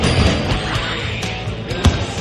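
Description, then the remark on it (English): Basketball three-point shots by Lonzo Ball from the right and left wings dropping through the net amid a run of sharp thumps and bounces, with a sharper, louder hit near the end over a steady background hum. No one speaks. “That is the sound of Lonzo Ball apparently draining trays from the right wing, left wing.”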